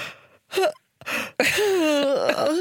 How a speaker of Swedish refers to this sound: Så börjar man bara, okej, okay, en gäspning, sen bara.